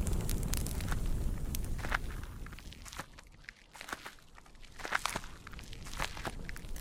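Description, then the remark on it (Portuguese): Steady footsteps crunch forward at an even pace as Shadrach, Meshach and Abednego walk out of the middle of the fire of the king's furnace, over a low rumbling, crackling backdrop of the fire burning. No one speaks. “Então, Sadraque, Mesaque e Abidnego saíram do meio do fogo.”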